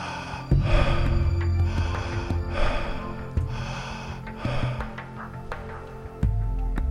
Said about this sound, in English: Let the pace of your breathing be rapid, as we illustrated. This will move more energy, create a more powerful session.